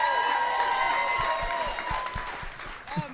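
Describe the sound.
A crowd claps steadily and loudly for a few seconds for Liz Merriweather after a dramatic reading, a dense wash of applause with a few raised voices and whoops mixed in, easing off slightly toward the end.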